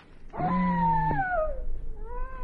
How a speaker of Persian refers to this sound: این چیه؟ سیغه گرگه. چی کار کنم؟ چقدر به من نزدیکه